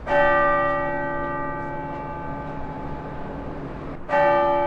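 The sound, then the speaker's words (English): A large bell of the Cathedral Basilica in Denver rings out as Coloradans remember Pope Francis, with a rich, sustained tone that hangs and slowly fades, then a second strike near the end renews the ringing. No voices are heard. “Bells rang out in Denver from the Cathedral Basilica as Coloradans remembered Pope Francis today as a transformative leader who redefined what it means to serve the global community.”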